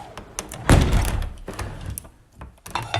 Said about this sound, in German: stieß er mit seinem dicken Kullerbauch die Tür auf, die darauf immer weiter auffiel.